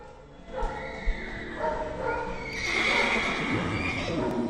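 horse neighing and hooves

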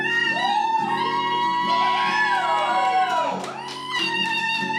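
audience screaming and cheering

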